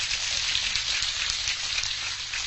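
A crowd at a Buddhist monk's talk gives another round of applause, a dense crackle of many hands clapping at an even, fairly loud level throughout, with no voices over it.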